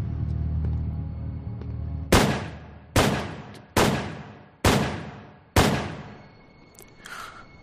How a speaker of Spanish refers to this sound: John Lennon acababa de recibir 5 disparos a quemarropa por la espalda